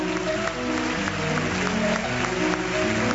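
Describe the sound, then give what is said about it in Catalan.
An audience applauds steadily as award winners approach the stage to collect their award, a dense wash of clapping mixed with music holding sustained tones underneath. “El públic ofereix aquest fort aplaudiment que demanen mentre s'apropen a l'escenari per recollir el guardó.”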